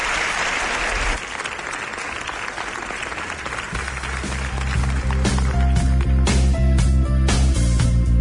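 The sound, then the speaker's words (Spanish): A theatre audience at the Teatro Circo de Murcia breaks into dense, sustained applause for a guest of a special evening programme, a steady wash of many hands clapping, with loud music swelling underneath during the second half. “Te doy las gracias, pido un aplauso y espero que vengas al programa a contar.”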